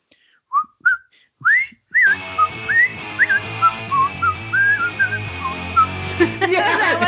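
A person whistles a lilting tune, starting with a few bare notes before steady background music joins in beneath the melody, which continues clearly and fairly loud to the end.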